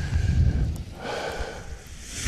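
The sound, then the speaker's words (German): Soft, breathy rustling of paraglider fabric fluttering in the wind in the Rhön, Germany, with a low rumbling gust at the start and an uneven, continuous flapping hiss throughout, no voices. “Hört ihr das Rascheln? Das sind die Paraglider.”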